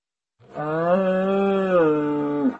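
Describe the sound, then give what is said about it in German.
A cow gives one long, loud moo, holding a steady pitch for about two seconds before dipping at the end, with nothing else around it. “Doch alles, was sie sah, war eine muhende Kuh.”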